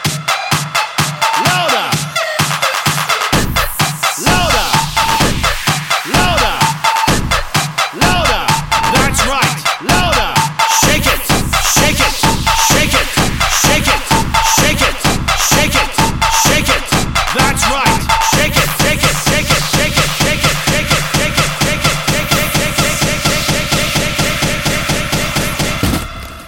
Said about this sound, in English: Put your hands up. Now, clap those hands. Clap those hands.